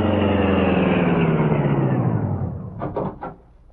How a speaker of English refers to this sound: he returned to the Black Beauty. The high-powered car, racing at top speed, easily outdistanced Maroney in the dash to the home of Sturgis, the criminal lawyer.